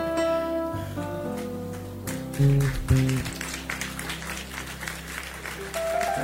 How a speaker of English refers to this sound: the way you are clapping, it's not humility at all. Eish. Humility clapping.